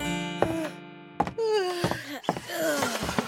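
A woman's drawn-out, moaning morning yawn and stretch on waking, with a voiced, wavering pitch that rises and falls over a few seconds, broken by a couple of soft thumps.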